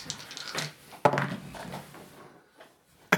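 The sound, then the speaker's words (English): Two dice, rolled with advantage, clatter onto a hard tabletop: a sharp knock, then a rattling tumble that fades out, followed by a single crisp clack at the end. “Roll both those dice, but they're both on now.”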